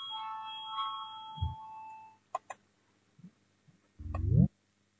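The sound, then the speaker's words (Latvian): A steady electronic chime tone rings out for about two seconds in a parliament, signalling deputies to vote on a proposal, followed by a few sharp clicks and a brief low rising hum, with no one speaking. “Lūdzu, zvanu balsosim par 19. deputātu Dombrovska un Reizniecas Sozolas priekšlikumu.”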